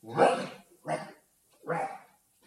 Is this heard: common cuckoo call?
no